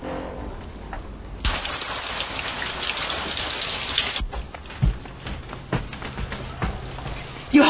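A steady hiss of shower water sprays, surging louder for a few seconds before settling back to a softer patter with occasional drips and light knocks.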